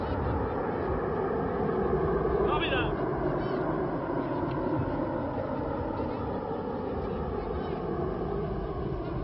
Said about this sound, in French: Et maintenant, à la vitesse de 350 km/h, qui était celle de son décollage, Concorde grimpe maintenant. Il va grimper à environ 400 mètres à la minute, 1200 pieds. Et gagner l'altitude de 3500 à 4000 mètres.